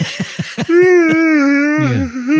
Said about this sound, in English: Are you yawning? Sorry.